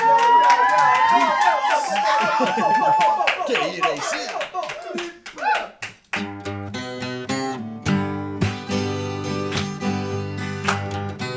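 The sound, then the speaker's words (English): A group claps hands in a dense, uneven patter for several seconds, with a shrill whistle and scattered voices, before the clapping gives way to steady singing with music. “Okay, clappers, noise.”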